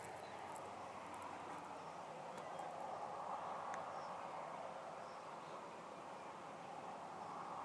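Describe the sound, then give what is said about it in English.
A long train rolls past outdoors in a steady, unbroken roar, its dense rumbling noise holding constant throughout with no pauses and no voices. “there is a train, and it's a long train”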